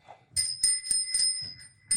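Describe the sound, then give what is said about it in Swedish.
A bicycle bell rung over and over by a child in quick, uneven bursts, its bright metallic ring sustaining between strikes, with some low thumping underneath and no talking. “Och ett barn som får liksom korn på en ringklocka.”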